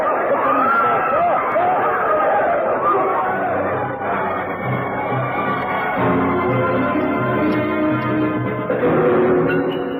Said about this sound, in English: All was utter confusion. No one knew what was happening. There was a pistol shot and screams. The crowd panicked.